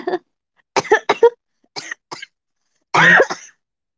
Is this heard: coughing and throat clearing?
yes